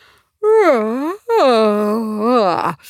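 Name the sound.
loud yawn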